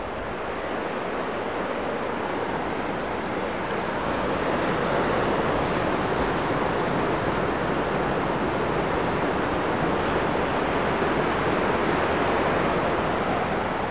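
Ocean waves breaking in long rolling breakers with white foam on the Crozon peninsula, facing a small islet, make a dense, continuous roar of white noise that swells slightly after the first few seconds and stays steady throughout, with no voices.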